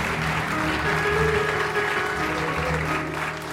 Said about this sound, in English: And now, the man with a do not resuscitate sign on his lawn, Michael Feldman. Yeah. Now applause.